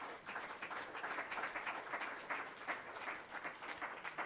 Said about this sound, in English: But first, let's give another round of applause to our speakers, Paul Nicholson and Chuck Shekinoff.